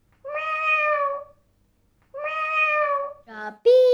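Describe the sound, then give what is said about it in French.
A cat lets out two long, drawn-out meows, followed by a couple of shorter, sharper yowls in quick succession, sounding distressed and frightened. “Je pousse un miaulement de frayeur et je me sauve aussi vite que possible.”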